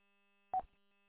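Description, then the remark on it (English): A single short electronic beep, part of a radio repeater's CW (Morse code) identification, sounds once over a faint, steady radio hum, with no talking. “it's just a CW ID on the repeater, that's all.”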